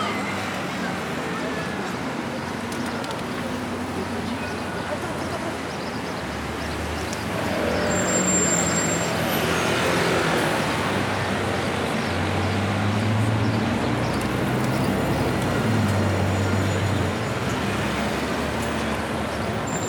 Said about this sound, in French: Je traverse la route, il y a beaucoup de circulation, trop de bruit de bus, de voitures, des klaxons.